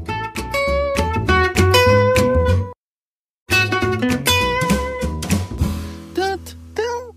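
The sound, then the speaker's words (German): A short, bright intro jingle for the Mentors Katzenbazar segment of the show Kanzleifunk, with a steady beat and layered tones, plays loudly, cuts out briefly for about a second, then resumes and winds down with a rising flourish. “Ach, ich liebe diese Musik.”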